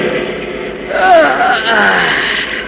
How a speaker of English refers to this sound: In the cabin, the driver yawns, checks his watch, then turns to his helper, nodding on the seat beside him.